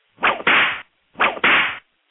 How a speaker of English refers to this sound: Hey, I want to say you can play the whip sound because I'm going to give you whiplash here right now. You're going to have to play it. Okay. I'll play my own whip sound.